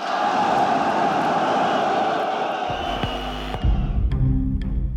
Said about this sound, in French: Ces huées, qui concernent seulement l'une des mesures, vont être interprétées par tout le monde comme un refus des accords de Grenelle par la base ouvrière. Avec ses 30 000 salariés, Renault constitue le plus grand bastion ouvrier du pays.